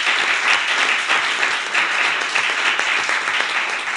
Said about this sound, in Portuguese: Eu tenho que agradecer, de forma muito sentida, o vosso trabalho, que também merece uma salva de palmas, porque proporcionaram.